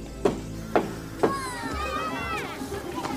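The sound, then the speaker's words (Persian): Children playing in the courtyard of a harem: three evenly spaced sharp claps or thumps, followed by high-pitched young voices calling and chattering together. “بچه ها در حیات حرمسرا بازی میکنن”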